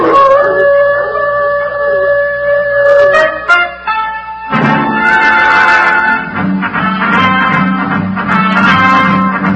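Hounds howl in long, wavering tones, one drawn-out howl rising slightly before a brief pause, then several dogs baying together in a loud, overlapping chorus of high and low pitches.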